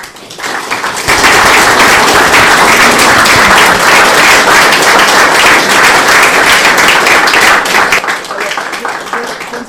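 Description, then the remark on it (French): An audience at the Atelier CLN bursts into loud, sustained applause for an exhibiting artist, a dense crackle of many hands clapping that holds steady for several seconds before tapering off at the end. “Encore bravo, nous t'applaudissons très très fort.”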